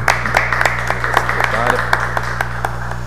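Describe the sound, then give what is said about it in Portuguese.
An audience applauds with a steady patter of many hands clapping for a few seconds, moderately loud and uneven in rhythm, over a low constant hum and faint murmuring. “Agradecer uma salva de palmas, então, para...”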